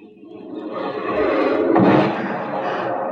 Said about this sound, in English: Like sitting on the grass and watching the fireworks.